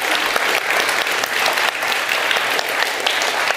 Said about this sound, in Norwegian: Applaus til deg også.